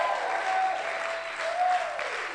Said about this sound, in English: Oh, come on, put your hands together. Oh, you are not clapping. As you clap, that grace of God is going to fall upon you.